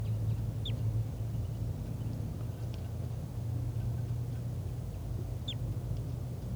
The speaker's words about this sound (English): And there are calls coming from over there. I'm not sure which bird is giving flight calls. I think it's the wild bird.